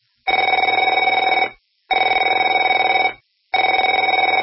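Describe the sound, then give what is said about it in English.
A telephone rings three times in a steady rhythm, each loud, buzzy, high-pitched ring lasting about a second and a half with short silent gaps between, and no voices. “Afraid to answer it?”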